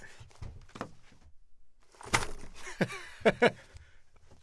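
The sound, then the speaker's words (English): A paper box full of coins is handled and shifted, giving scraping rustles, a few sharp knocks and bursts of muffled metallic clinking at moderate loudness. “Wait, it's a big paper box filled with coins.”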